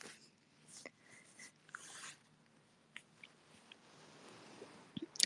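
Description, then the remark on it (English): A person softly imitates a small dog, making several short, quiet yips and whimpery squeaks spaced irregularly, faint, with a few tiny mouth clicks and no speech. “I'm pretty good at, like small dog. But, I can't be loud right now.”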